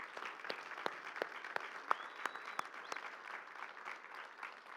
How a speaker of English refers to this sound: But we want to thank you with a round of applause for your efforts.